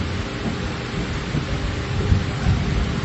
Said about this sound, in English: It starts raining very seriously.